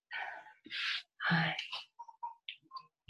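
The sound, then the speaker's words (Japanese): A baby cries in a few loud, strained bursts, then trails off into short whimpers and fussy little sounds. No one is talking. “泣いているんですが。今の、私の働き方はまさにこれ赤ちゃんと一緒に暮らしていまして”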